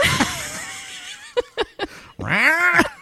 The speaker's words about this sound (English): Why does that cat hate me?